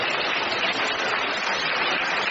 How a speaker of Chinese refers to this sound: 让我们再次用掌声感谢卢军宏台长。